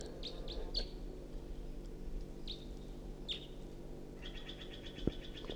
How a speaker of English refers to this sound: Stop. It's recording a wild bird. It's perched in the tree above the net now, singing.